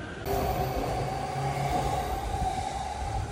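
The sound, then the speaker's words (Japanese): A steady, fairly loud rumble of a train moving through a Japanese train station, with a low droning hum and faint high whine holding constant throughout, no voices present. “some Japan train station sounds in case you're missing them.”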